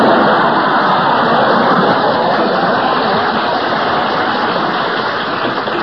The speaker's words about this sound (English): To live to see the day Berle gets applause on this program. It must have been a recording someone sneaked in.